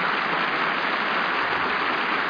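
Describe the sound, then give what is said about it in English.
Steady, dense applause from a large audience, many hands clapping at once into a continuous crackling wash with no pauses or voices for the full couple of seconds. “The sound stages of Hollywood are far away from the applauding audience.”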